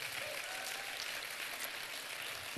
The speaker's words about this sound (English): Go ahead, give the Lord a great clap offering.